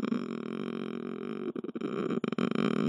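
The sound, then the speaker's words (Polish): A woman imitates a cat's purr with a low, raspy, rumbling throat sound. It holds steady, then breaks into choppy bursts before resuming for a few seconds. “Odpowiedź: tak mruczy kot, a tak mruczałam ja.”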